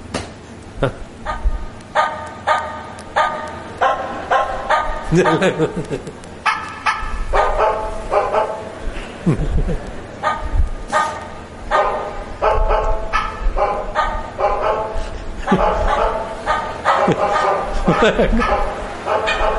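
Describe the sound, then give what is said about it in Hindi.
Several dogs in a village bark through the night, over and over in dense, overlapping bursts, loud, with barely a pause for twenty seconds, the yaps coming in quick irregular volleys. “सारी रात गांव में कुत्ते भौंकते रहते, कोई शुरू कर देगा बस चल पड़े।”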